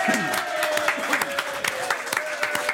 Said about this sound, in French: On l'applaudit.